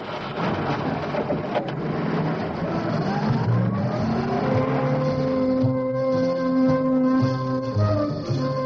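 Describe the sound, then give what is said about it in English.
A police car, car 44, revs and pulls away, heading north on the M1 motorway. Its engine whine climbs in pitch before settling into a steady, loud drone with road rumble underneath. No one speaks. “As car 44 moves northwards on the M1, the little girl indicates to the two policemen that she entered the motorway from the 11th Avenue on-ramp.”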